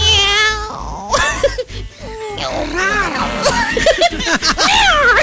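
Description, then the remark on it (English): A person imitates a cat, letting out several drawn-out, wavering meows up close, with a bit of laughter and chuckling mixed in between the calls. “Can you just adopt me? I can meow.”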